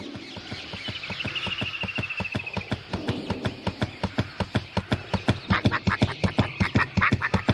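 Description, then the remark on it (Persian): A bird said to always accompany the princess calls in a rapid, steady run of harsh, quack-like notes, about five or six per second, loud throughout, with no one speaking. “اوه، این پرنده ی اکبری همونی نیست که همشه همراه پرنسسه؟”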